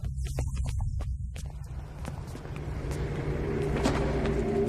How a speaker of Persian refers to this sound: یه اتومبیل وارد ساختمون شده. دستگاه‌ها هیچ نشونی از راننده پیدا نکردن.